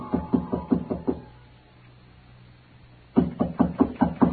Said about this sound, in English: Footsteps again. And this time they stopped outside my door.